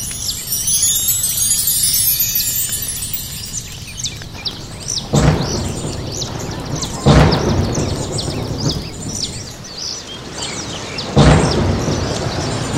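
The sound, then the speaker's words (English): Steady rain hisses throughout while three sharp, loud thunder cracks break in at uneven intervals, with high bird chirps twittering over the downpour at the start. “Amazing, it's raining.”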